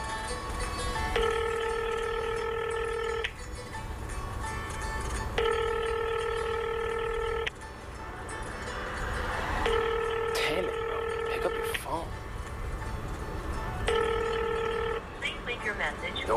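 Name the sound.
telephone ringing unanswered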